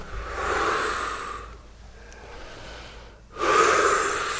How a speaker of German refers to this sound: Und dann nehmen wir die Arme hoch, dreimal, atmen tief aus und ein und gehen trotzdem immer wieder in Blickkontakt. Machen wir jetzt einfach mal.